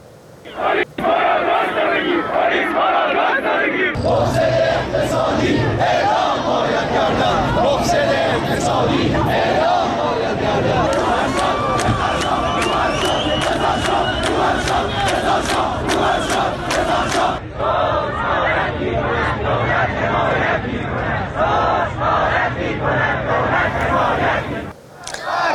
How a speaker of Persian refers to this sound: روز پنجشنبه در تجمع معترضان مشهدی شعارهایی همچون مرگ بر دیکتاتور، مرگ بر روحانی و رضا شاه روحت شاد سر داده شد.